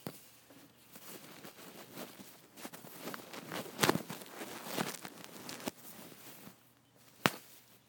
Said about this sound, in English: Now, for those who've never heard, this is kind of the sound that when you stroke a bird's feathers.